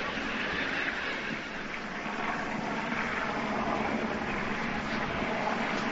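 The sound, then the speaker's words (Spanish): Police helicopters and TV camera helicopters produce a steady, unbroken engine roar that fills the whole six seconds at an even loudness, with no voices and no clear rotor thumping standing out. “Mientras escuchamos de fondo los helicópteros, en este caso, sí, los helicópteros en este caso de policía algunos y en otro caso con los de las cámaras de televisión.”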